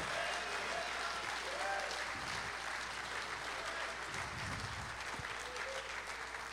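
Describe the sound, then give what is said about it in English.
An audience claps hands steadily in praise of God, a dense, continuous wash of applause with faint voices and cheering mixed underneath. “Clap your hands.”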